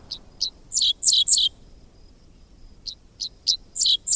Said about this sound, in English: Half insect, half sci-fi blaster, this song belongs to a bird called the dickcissel, whose name spells out the syllables of its quirky song.